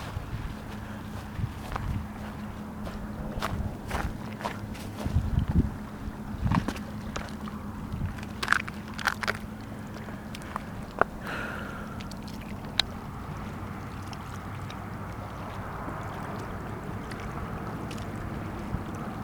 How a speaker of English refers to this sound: You hear the stillness and the gentleness. The gentle, lapping, intercoastal waters.